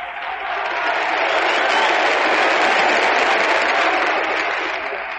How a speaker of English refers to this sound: Now if they'd only applaud like that all the time.